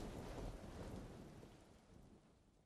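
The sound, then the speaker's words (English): A low, rumbling roll of thunder mixed with gusting wind, steady at first and then gradually fading away over a few seconds. No voices. “A whistling wind creeps up, and another roll of thunder crashes above. Both eventually die away.”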